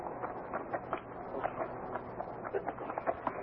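Horses' hooves clip-clop in an uneven, shuffling rhythm, fairly soft and muffled, with no one speaking over them.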